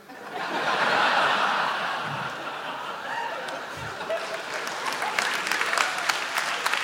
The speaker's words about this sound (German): Bitte. Länger klatschen. Länger klatschen, dann habe ich mehr Zeit nachzudenken.